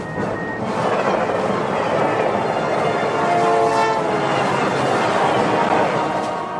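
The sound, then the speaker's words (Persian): A train approaching from the opposite direction rumbles past with a steady, heavy roar, and its horn sounds as it approaches, a sustained tonal blare riding over the rolling rail noise. “خدای من، یه قطار دیگه داره از جهت مخالف میاد.”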